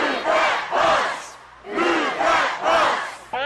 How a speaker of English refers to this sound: Now, if this were Extreme Makeover College Edition, this is when people would start shouting.